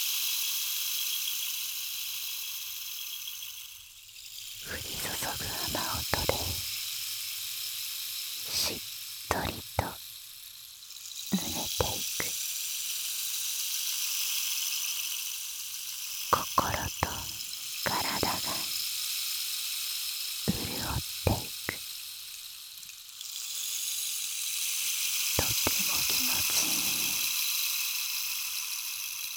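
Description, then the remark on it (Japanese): A steady shower of rain-like hissing from a rain-making magic stick runs throughout, broken every few seconds by brief, louder rattling bursts that swell and fade. “君の体に雨が降り注ぐ。心地よい雨音のシャワー。”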